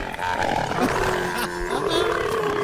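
A camel caravan passing through a red traffic light grunts and bellows in a loud, continuous, throaty groan with rough harmonic tones, rising and falling over a couple of seconds with no speech.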